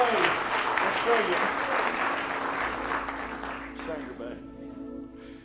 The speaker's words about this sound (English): Let's give Him a real good hand clap of praise.